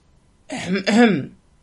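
A man, a colonel, clears his throat meaningfully in two quick, gruff bursts, fairly loud, with no speech around it.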